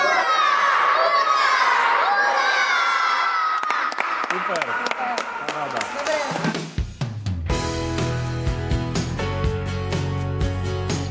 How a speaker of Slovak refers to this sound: Teraz samozrejme si na záver ešte upracujeme, keď budeme odchádzať, ale čo zakričíme aspoň na konci trikrát hurá. Dobre? Poďme na hlas.